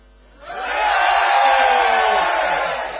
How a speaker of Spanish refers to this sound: Vamos a tratar de concentrarnos y para eso... propongo hacer un grito general. Adelante.